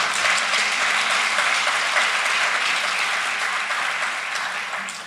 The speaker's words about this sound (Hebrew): אז תראו, מחיאות הכפיים האלה זה כיף ווואו והתרגשות, אבל אני הסתכלתי על הזווית השנייה שקבלת פרס מפעל חיים נשמע כמו סיכום.